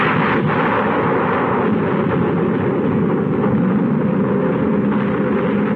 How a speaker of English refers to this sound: This, the great city of Shanghai on a September day in 1937. This, the fearful beginning of a new kind of war. This, the first mass bombing from the air of a helpless civilian population.